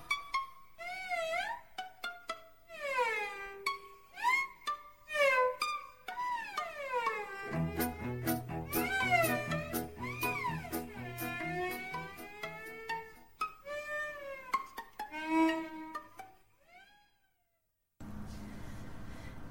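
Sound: cat meowing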